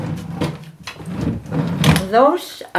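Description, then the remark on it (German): A wooden drawer of a cupboard is pulled open with a series of rattling scrapes and knocks as it slides, and a woman takes two sweaters out of it; a person's voice murmurs briefly near the end. “Sie steht auf, schlappt herüber zu einem Schrank und zieht 2 Pullis aus einer Schublade.”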